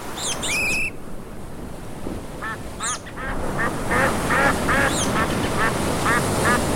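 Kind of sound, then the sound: bird, ducks quacking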